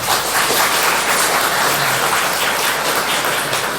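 A crowd claps steadily, a dense wash of many hands applauding at fairly close range, holding a constant loudness for the whole stretch with no voices rising above it.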